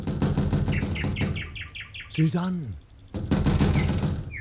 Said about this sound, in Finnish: Plataanin varjosta sukeltaa esiin Bellamy, uusi Romeo, ja koputtaa kutsuvasti ruutuun.